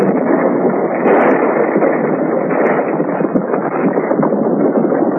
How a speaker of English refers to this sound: Then, shielding a match from the wind, he lighted a fuse that dangled from something he carried, threw the bundle into the mine and ran. Suddenly, there was a sound of an explosion.